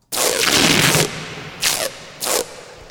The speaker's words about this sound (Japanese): 体育館に貼られたラインテープを剥がす音。